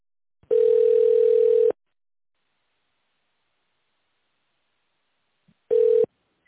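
A steady telephone ringback tone, heard while waiting for an operator to answer a call to the company Mitchell Service, sounds in two bursts: a long, loud, single-pitched buzz for about a second, then a pause, then a shorter burst of the same tone.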